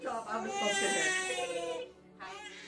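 A baby screams and cries on its first Halloween in a loud, high-pitched, strained wail that holds for nearly two seconds, breaks off briefly, then starts up again.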